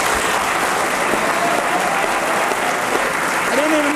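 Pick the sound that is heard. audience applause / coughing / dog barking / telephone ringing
audience applause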